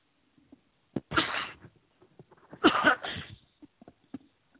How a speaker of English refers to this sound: I should have my mute button up there so I can cough.